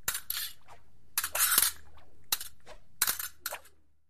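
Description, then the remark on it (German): Sharp metallic clangs ring out in quick, uneven bursts as swords strike each other several times in a close-quarters street fight involving the house of Montague. Each hit is bright and ringing before the next. “des Hauses Montagu, und sein Freund Benvolio geraten mitten in ein Straßengefecht.”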